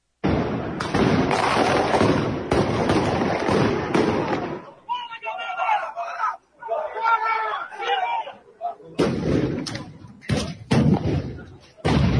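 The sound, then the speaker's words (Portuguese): Outside a stadium, harsh, crackling bursts of fireworks fill the first few seconds, give way to a crowd of voices shouting and yelling, then more loud firework blasts crack and pop at the end. “foguetes e gritaria.”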